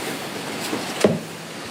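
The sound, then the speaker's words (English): A door is opened against steady background noise, with a faint click and then a sharper thump and brief creak about a second in. Nobody speaks. “So Doug opens the door and does what?”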